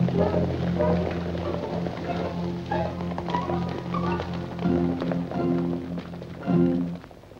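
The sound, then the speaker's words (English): Horse hooves gallop in a quick, steady rhythm as a man chases after a riderless horse, the thudding beats mixed with a low, droning musical backdrop that swells briefly near the end. “He watches and listens, and chases after Will's riderless horse.”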